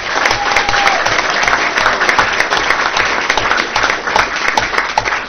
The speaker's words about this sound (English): Thank you so much for everything you do. Thank you. Round of applause, please.